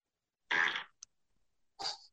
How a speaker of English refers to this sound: Farts are always funny. It gets me every time.